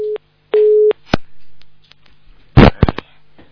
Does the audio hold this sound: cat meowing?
no